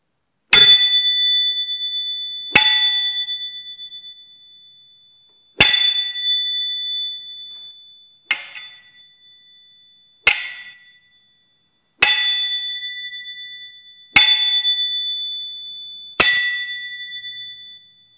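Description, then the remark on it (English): Eight sharp metallic strikes on a fencing foil's bell guard, each ringing out bright and bell-like before decaying, spaced a couple of seconds apart, fairly loud with no voices. “This one will be just a bell guard on a foil.”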